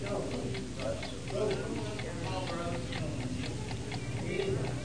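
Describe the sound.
A steady, even clock tick repeats at a regular pace, faint against a busy background of low murmuring voices and room noise.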